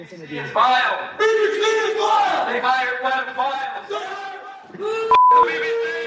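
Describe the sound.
A loud crowd of many supporters shouting abuse and yelling over one another, continuous, with a sharp electronic bleep cutting in briefly near the end.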